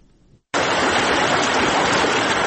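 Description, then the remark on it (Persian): After a faint low rumble and a moment of silence, loud rushing river water suddenly fills the scene, a dense, steady roar that continues unbroken, at the confluence of the Harirud and Jam rivers by the Minaret of Jam, Shahrak district, Ghor province, central Afghanistan. “در محل یک جا شدن دو دریای حریرود و جام، منار چند صد ساله جام در ولسوالی شهرک ولایت غور در مرکز افغانستان همچنان پا برجاست، اما در امان نیست.”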